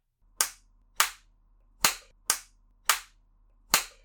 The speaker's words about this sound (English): I'm just gonna keep going harder. You can take it, strong little thief, huh? Take this crop, smacking your ass. Over. And over. And over again.